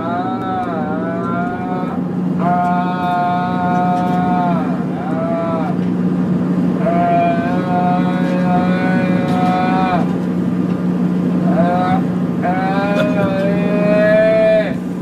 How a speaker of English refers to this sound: So the court was played a recording of Johnny Depp howling like an animal. On the plane? On the plane. Yeah. He was screaming at Amber Heard, accusing her of cheating on him with James Franco. And then the noise, here's the noise.